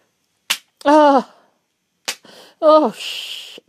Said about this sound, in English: I'm slapping it on my wrist to make sure I get the right intensity. Doms out there, please. Test it on yourself before anybody else.